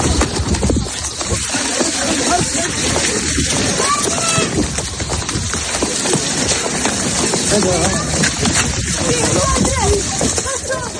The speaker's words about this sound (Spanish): La gente corriendo a toda prisa.